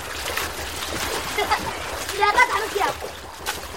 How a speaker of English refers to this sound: As the sun goes down, Ahmed splashes about in the river near his home